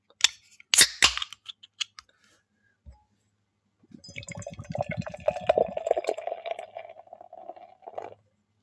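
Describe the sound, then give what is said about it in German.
The cap of a bottle of Regenerator, a non-alcoholic Sporty India Pale Ale, pops off with a few sharp clicks and a brief hiss, then after a pause the beer glugs and fizzes steadily into a glass for several seconds, the pitch rising as it fills. “Okay, na wunderbar, dann machen wir es doch mal auf.”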